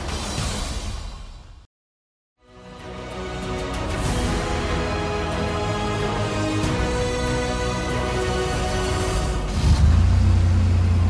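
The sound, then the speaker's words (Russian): Vehicle engines run and rev in a steady, loud mechanical drone, broken by a brief moment of silence early on, with a deeper rumble swelling near the end; the vehicles, handed over by the Novokuznetsk municipality to the People's Front, are to be sent to the front for fighters from Kuzbass. “Уже совсем скоро эти машины отправятся на фронт в помощь нашим бойцам из Кузбасса.”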